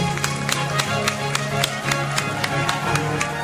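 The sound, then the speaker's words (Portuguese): A parish audience in Salvador, Bahia, Brazil applauds its tithe-givers steadily. It is a dense wash of overlapping claps with sharp individual hand claps popping out in an uneven rhythm, sustained at a moderate level for the whole stretch. “Vamos dar uma salva de palmas para os nossos dizimistas.”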